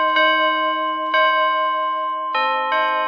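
Church bells ring out in a steady sequence of loud, resonant strikes, each tone ringing on and overlapping the next, with no voices present.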